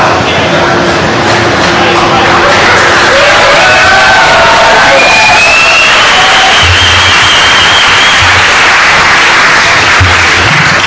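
A loud crowd cheers and applauds without a break, a dense wash of clapping with scattered whoops and shouted voices rising above it, and low thumps late on.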